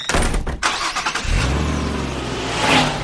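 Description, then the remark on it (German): A brand-new two-seater sports car's engine cranks with a rapid, rattling starter for about a second, then catches and settles into a steady low hum that swells slightly as it speeds away. “Mit ihrem nagelneuen Flitzer, einem schicken Doppelsitzer, braust sie los.”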